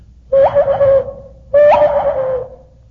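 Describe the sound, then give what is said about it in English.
Two long, hollow hooting tones from a hand whistle blown through cupped hands, each held about a second with a short pause between, loud with a breathy edge. “One day I was leaning on a table with my hands folded, and I just happened to blow in my hands to maybe warm them or something.”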